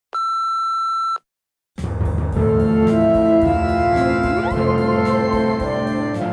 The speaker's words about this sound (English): Message after the beep, and I'll get back to you as soon as I can.